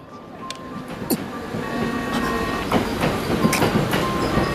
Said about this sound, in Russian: Поезд внешней линии прибудет в ближайшее время. В такое время? Линия Яманаги еще работает?